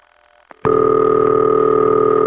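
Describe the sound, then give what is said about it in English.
After a faint hum and a soft click, a loud, steady Bell system telephone ring tone known as High City Ring cuts in and holds with a buzzy, harmonic-rich drone. No voices. “That's High City Ring.”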